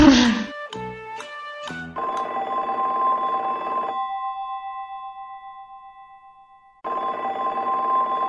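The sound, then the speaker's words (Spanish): An old-style telephone bell rings in two long, rattling bursts separated by a pause, loud, after a few brief clattering tones at the start. “El teléfono”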